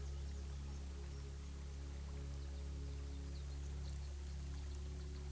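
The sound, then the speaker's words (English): Water of a stream flows steadily and continuously at a soft, even level, a gentle rushing wash with a faint low hum beneath it and no voices. “Feel the water's gentle current against your fingertips as you dip your hand in.”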